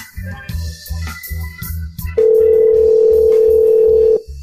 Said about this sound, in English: Trying again. That's going to a cell phone.